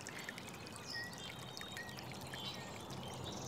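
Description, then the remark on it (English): Steady rushing water flows continuously in the water below a bridge, with faint high bird chirps scattered over the top. No one speaks. “We've got just the sweet furry head of a nutria doing donuts in the water below our bridge.”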